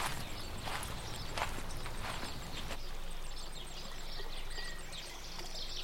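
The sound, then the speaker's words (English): Several footsteps crunch along at a steady walking pace for the first few seconds, then fade into a soft outdoor ambience with faint chirping and a trickling background. “You continue walking forward.”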